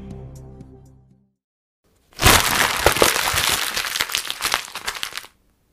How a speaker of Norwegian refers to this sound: Så her kommer... Lyden av Skrottkast. Kan du gjette hvilke eksamenspapirer vi har krøllet sammen?